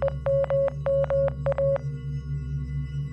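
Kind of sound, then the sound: signal or alarm, electronic beeping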